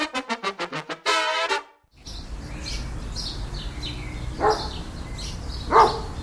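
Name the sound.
dog barking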